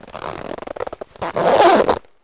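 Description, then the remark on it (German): A suitcase zipper is pulled shut in a quick series of short rasping bursts, ending with one longer, louder continuous zip. It is clear, with no voices. “Jetzt geht der Koffer zu.”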